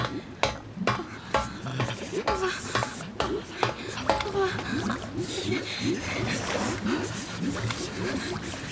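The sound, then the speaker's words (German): Footsteps wade through cold, ankle-deep water that has flooded the lower decks of a ship, in a steady series of sloshing splashes, with people talking over the later steps. “Da unten ist bereits Wasser eingedrungen. Ja, aber es ist nur knöchelhoch.”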